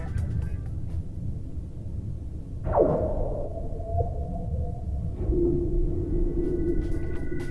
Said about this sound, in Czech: tenhle týden poslouchám švédský praskající led.